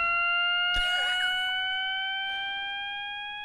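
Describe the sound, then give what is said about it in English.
A steady siren-like tone glides slowly upward without pause, loud and continuous, repeating in cycles with a new rising tone starting as the previous one ends, with a brief noisy clatter near the start; no voices. “A new rising tone starts as the previous one ends.”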